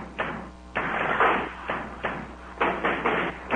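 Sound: knocking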